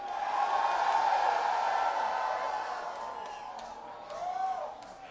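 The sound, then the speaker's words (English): A crowd in New Orleans screams together on request in a sustained, high-pitched roar that holds steady for several seconds, then thins into scattered shrieks and whoops before one last rising yell fades out. “I said, give me a scream!”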